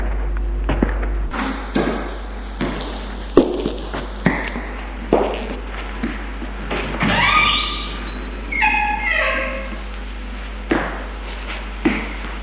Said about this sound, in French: A poussé la porte, est entrée. C'est une chambre.